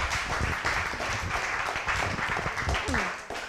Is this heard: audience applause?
yes